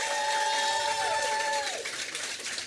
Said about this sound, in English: Sound of applause.